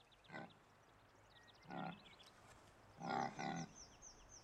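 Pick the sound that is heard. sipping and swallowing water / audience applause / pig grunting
pig grunting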